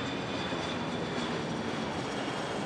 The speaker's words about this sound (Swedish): Men då hör de ljudet av en jetmotor som närmar sig snabbt.